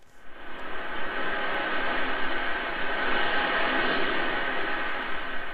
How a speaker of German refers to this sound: Zwei Performance-Künstler in Kostümen aus langen schwarzen Fäden, die beim Bewegen ein metallisches Rauschen erzeugen.